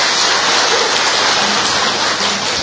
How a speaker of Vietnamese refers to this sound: Rồi mời con về chỗ, chúng ta cho một tràng pháo tay nữa để tạ ơn Chúa.